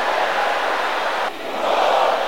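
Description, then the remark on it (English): A large audience shouts a prayer aloud together, "Oh Lord, behold their threatening", in a loud, sustained roar of many voices, dipping briefly just past the midpoint before surging back up even stronger. “Shout it again loud and clear. Shout it with a louder voice.”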